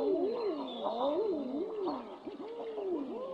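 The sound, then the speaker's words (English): Several male common eiders, large sea ducks, give their crooning mating calls, overlapping "ah-oo" coos that rise and fall in smooth, wavering swoops, fairly loud over a steady background hiss. “This is the mating call of the male common eider.”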